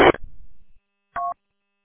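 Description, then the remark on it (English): A sharp click with a brief rumbling tail, then after a short pause a single telephone keypad tone, a short steady two-pitch beep. No talking. “The phone. Interesting.”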